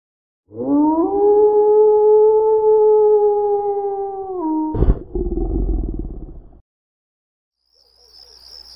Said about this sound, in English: We heard the howling and saw the movement outside, but that was about it. It shook the house a couple times, like it slammed itself into the wall.